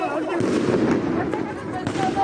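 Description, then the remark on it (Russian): Several sharp gunshot bangs crack at irregular intervals over a dense, noisy background of crowd commotion and indistinct voices, with some echo, during street clashes with police in Dijon, France, where masked people gathered and cars were burning. “На видео, которые тогда появились в сети, были видны люди в масках, горящие автомобили и слышны выстрелы.”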